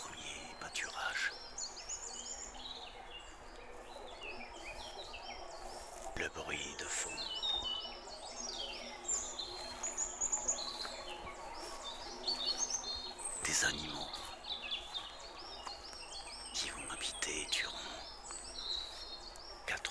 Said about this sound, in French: des oiseaux.